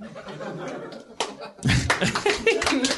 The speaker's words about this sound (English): I give a slow clap.